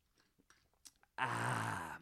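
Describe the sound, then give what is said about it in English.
Soft lip and swallowing clicks from someone drinking, followed by a loud, breathy, satisfied "ahh" exhale lasting under a second. “Let me take a sip to that.”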